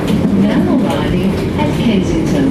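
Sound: inside a moving train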